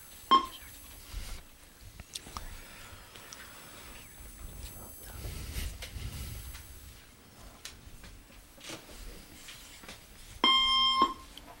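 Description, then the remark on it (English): A game show countdown timer set to 10 seconds while contestants discuss and write down answers to a bird identification question: a short electronic tone opens it, about ten seconds of quiet room murmur follow, then a loud, harmonically rich buzzer-like beep ends it. “I'll put 10 seconds on the clock.”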